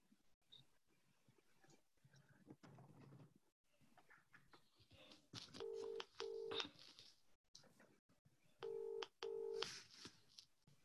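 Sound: telephone keypad dialing tones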